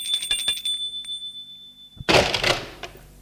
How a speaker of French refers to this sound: Il sonne à une porte.